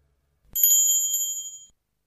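A clock strikes a quarter to twelve: a single bright, high-pitched chime rings out once and shimmers for about a second before fading, with no voices or other sounds around it.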